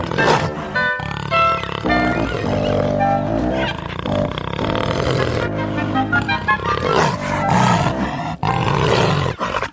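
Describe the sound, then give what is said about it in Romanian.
A tiger roars loudly, a long series of deep, rumbling roars and growls with only brief pauses, filling the whole stretch with no talking. “Ia să mă duc eu la Marele Vărgat. Sunt sigură că tigrul nu o să mă refuze.”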